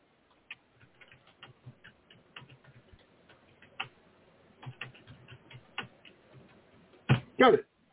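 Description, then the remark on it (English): Quiet keyboard typing: irregular bursts of small, quick key clicks in uneven clusters, ending with a couple of louder, sharper clacks. “I hear typing.”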